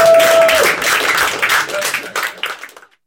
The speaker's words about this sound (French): Donc je pense que pour se détendre, on pourrait peut-être les remercier avec des applaudissements.